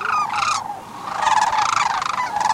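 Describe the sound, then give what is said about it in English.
A flock of sandhill cranes at the far east end of the Copper River Delta, some aloft and some in a slough, calls back and forth in loud, rolling, trumpeting croaks that overlap continuously, with harsh, rattling tones rising and falling throughout. “The birds aloft chattered to the birds in the slough, the birds in the slough answering excitedly, but it wouldn't be long before the tone changed.”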